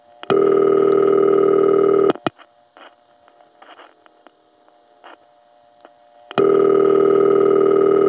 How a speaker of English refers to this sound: The most famous ring of this type was Hempstead's number one crossbar ring, which Bill and I just had a nickname for. We called it good old Glug.